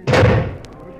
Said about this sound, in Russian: Сраженная выстрелом, Лариса медленно опускается на землю.